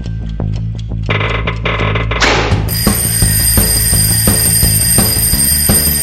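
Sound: alarm clock ringing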